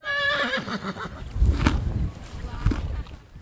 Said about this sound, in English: That crunching sound is coming from a Mustang named Miami, eating hay. He has a light brown coat with a short blondish mane.